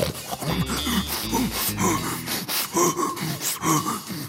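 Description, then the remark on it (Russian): Heavy, ragged distant panting with gasping breaths repeats steadily over a busy background, followed by louder strained vocal sounds, a shout, toward the end; no words are spoken. “Коля услышал отдаленное пыхтение, а затем и крик.”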